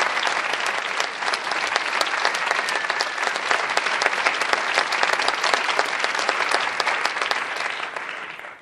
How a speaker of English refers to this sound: Yeah, I always like the polite applause of the young people.